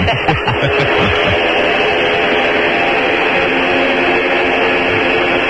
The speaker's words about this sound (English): Ladies and gentlemen, you're listening to a dead cow being dragged onto a truck.